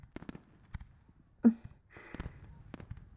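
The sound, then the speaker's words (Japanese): Fireworks go off at a summer festival with scattered sharp pops and crackles, one louder burst standing out midway, followed by a fizzing crackle and a few more quick bangs. “だけど、一人で見る花火は、ちょっとだけ切ないよ。”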